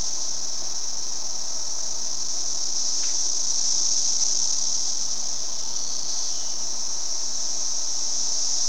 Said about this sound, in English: Okay, I've got this pointed toward the window here. I've got the air conditioning on and windows closed, but let's listen and see if you can hear the cicadas.